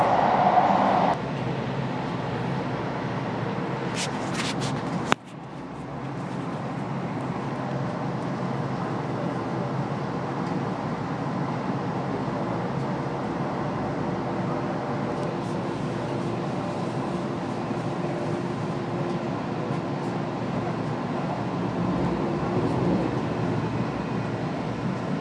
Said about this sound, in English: I decided to take public transport so I can have a good look at the link between Long Beach and LAX, and it's just a fascinating journey. Seeing all the different houses, and this is the metro.